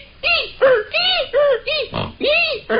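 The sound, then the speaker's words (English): A man's voice imitates a head caught in a revolving door: about seven loud, squealing yelps in a quick, even rhythm, each arching up and down in pitch like a squeaky hinge. “Let's hear a guy getting his head cut in a revolving door”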